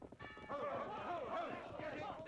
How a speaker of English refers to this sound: The weight of his body swung the bell. Its clapper struck home.